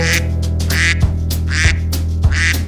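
A duck quacks repeatedly in a quick, even series of loud, nasal calls, about half a second apart, over a steady low droning background.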